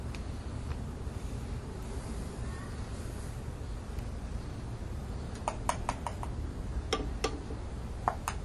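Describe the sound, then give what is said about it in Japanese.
Paint tubes click several times while someone paints outdoors on a sunny day in mid-June, small sharp taps in an irregular cluster toward the end, over a steady outdoor hiss of wind and ambient noise, with no talking. “水の音とか絵の具がこうカチカチ曲がってる音とかですね、そういうのも聞いてもらうというか”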